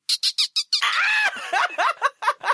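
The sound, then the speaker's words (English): A person imitates a dolphin with rapid high-pitched squeaks and chirps: four quick clicky bursts, then a long warbling squeal followed by a string of short rising squeaks, loud and with no other talk. “Are you trying to get me to do my dolphin noise?”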